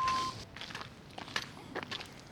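A brief beep, then crunchy, uneven scuffing steps on a patch of ice that break into a sliding scrape and a sharp impact as someone slips and falls on their bottom. No one speaks.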